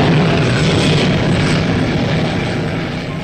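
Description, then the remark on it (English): A jet piercer drilling a hole 40 feet deep into a very hard rock bed, melting the rock with burning fuel oil and oxygen at 4,500 degrees Fahrenheit, gives off a loud, steady roar like a jet engine, a dense rushing blast that holds without pause the whole time, with no voices. “That's a jet piercer, and it's drilling a hole 40 feet deep in our very hard rock bed.”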